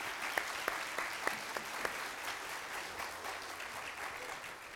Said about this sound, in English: I feel like you want to clap. Go right ahead.